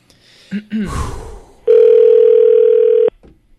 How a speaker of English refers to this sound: Dial tones are really, really bad to get